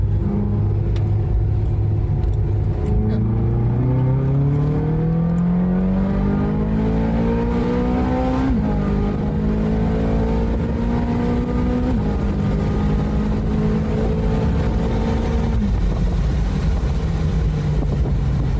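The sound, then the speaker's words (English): A car driven with the roof off revs up hard as it is throttled out of a hairpin bend, its pitch climbing through several gear changes with brief dips between shifts, loud with wind rumble throughout. “I'm going to throttle it out of a little hairpin.”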